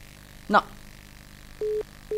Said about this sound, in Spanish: Que le está entrando otra llamada a su celular. Sí. Está, bueno, en comunicación.